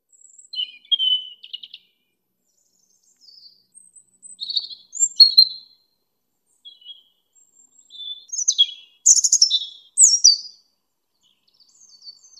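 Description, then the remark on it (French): A European robin sings alone, delivering short bursts of thin, high warbling phrases separated by brief pauses, clear with no voices or other sounds. “Le chant d'un rouge-gorge pour annoncer la star de l'exposition du Louvre”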